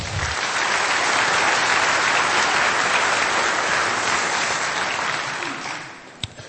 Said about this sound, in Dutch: Ik zou zeggen, een hartelijk applaus.